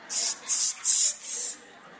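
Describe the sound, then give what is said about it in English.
A voice imitates the rubber-bulb atomizer of a small perfume bottle with four hissing sprays, each a short, bright burst of air noise with brief gaps between, fairly loud. “I remember when I was a little kid, I got one of those little bottles and had the little rubber thing on it. And I loved to go around and spray my brothers.”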